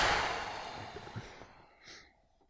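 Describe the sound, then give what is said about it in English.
A single explosive burst that blends a sneeze into a cough, its breathy rush fading over about a second before a faint short exhale. “Which was a sneeze cough and cum.”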